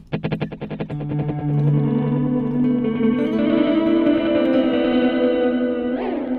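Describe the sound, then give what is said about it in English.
Fast echoes of an electric guitar note from a delay pedal, the repeats bunched up toward the quarter note, stack up into a thick, shimmering wash of sustained tones with a long reverberant tail, ending with a brief pitch bend; no talking. “And silver kind of bunches the repeats up towards the quarter note.”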